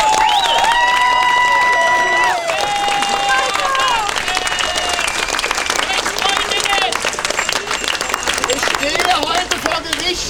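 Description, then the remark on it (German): A large audience in Germany applauds loudly and steadily for about ten seconds, dense clapping mixed with cheering and a few high whistle-like voices that rise over the crowd in the first half, applauding everyone who has come, including people from Austria and southern Germany. “Ein Applaus für alle, die heute hier sind, erstmal.”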